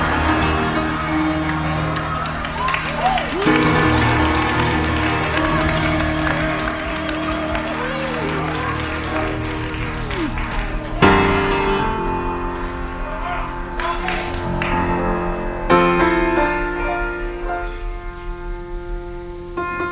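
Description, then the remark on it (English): An audience claps and cheers, the applause mixed with crowd chatter and sustained tones, staying fairly loud and steady for the whole stretch. “Y'all threw us off just then? Don't clap till we get it open”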